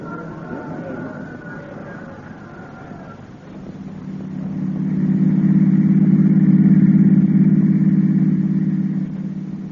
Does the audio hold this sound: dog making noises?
no